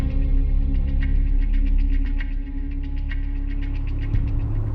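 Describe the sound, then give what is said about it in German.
A steady, low engine hum fills the interior of a moving car, with a dense rumbling drone and faint, regular ticking above it. No one speaks. “In einem Auto treffen wir eine junge Frau.”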